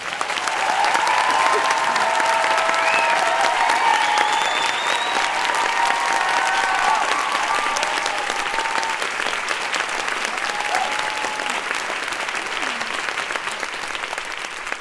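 An audience at the first La Poudre Live applauds loudly and steadily to welcome the guest on stage, a dense wash of clapping that holds strong throughout, with a few whoops and cheers rising over it before it eases slightly toward the end.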